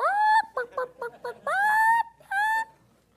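A chicken squawks and clucks: a drawn-out bawk, a quick run of four short clucks, then two more long rising squawks, loud and alone.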